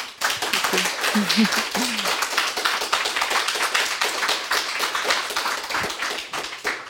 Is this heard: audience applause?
yes